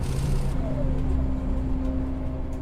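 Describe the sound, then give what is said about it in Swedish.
Steady low engine rumble and road drone fill the cabin of a moving bus carrying a tyre fitter home from work in September 2016. A faint whining tone shifts as it drives, continuous and fairly loud throughout. “Nu sitter han på bussen på väg hem.”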